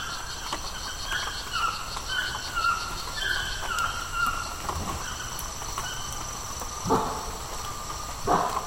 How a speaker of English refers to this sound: So what are those sounds at the end? It kind of sounds like a dog barking. No, it's probably a howler monkey.